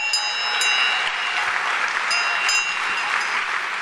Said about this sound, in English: But here is one that I made at this little factory that has the inaugural seal of Kentucky and was from our election just a year ago, Governor Branstad. If you ever, that's what an American-made bell sounds like right there.